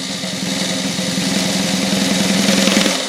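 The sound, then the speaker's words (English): A sustained drum roll of rapid, evenly spaced strokes blurs into a steady rattling buzz, holding loud for about three seconds and swelling slightly before it stops, with no voices. “All right, bring on the whistle. Drum roll.”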